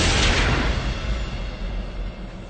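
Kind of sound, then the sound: impact, gunshots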